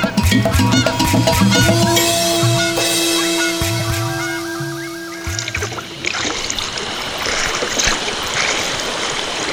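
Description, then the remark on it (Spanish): River water splashes and sloshes steadily, as if a canoe is being paddled, at first under a layer of sustained tones, then alone as a rushing, moderately loud wash. “Sale cuando ya está oscuro en su canoa remando y su látigo agitando.”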